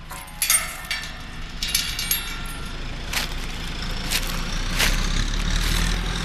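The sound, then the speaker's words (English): Heavy tractor engines rumble and idle steadily outdoors at a tractor race, the Fall Pole Tractor Championship in Kalajoki, Finland, on 15 July, with occasional sharp metallic clanks and bursts of revving cutting through the low drone. “I have a question about this tractor race here.”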